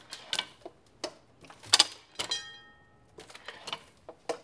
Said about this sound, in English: And you know, it doesn't have to be there. The ding, ding, ding is just sweet. It's just a little extra. It's not necessary to the operation of the press. And it's this beautiful little piece back here that's hitting. It's a pretty simple mechanism.